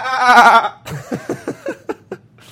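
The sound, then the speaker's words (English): A loud, quavering goat-like bleat, then a rapid string of about six short, choppy bleats in a stuttering rhythm, clear with no talking. “Have you guys ever heard a goat on a motorcycle? Because that sounds a little bit like this.”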